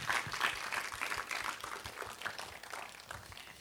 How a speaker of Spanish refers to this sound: Gracias a todos los voluntarios, incluido este fabuloso equipo de alabanza, que por cierto es mi favorito, ¿eh? ¿Por qué no les damos a todos ellos un aplauso fuerte de gratitud?